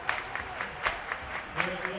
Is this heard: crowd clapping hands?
yes